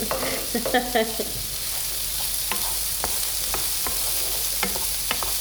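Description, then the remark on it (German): Food crackles and sizzles in a frying pan as the moisture inside it cooks, a steady hiss broken by sharp irregular pops, with a few clinking stirring sounds early on. “Das knistert schön. Die Feuchtigkeit da drin.”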